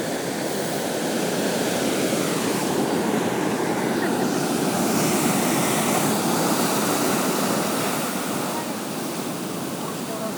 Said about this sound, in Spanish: Y bueno, pues aquí se oye la resaca y las olas que rompen aquí. Tampoco muy fuerte, pero bueno, además está subiendo la marea, yo diría.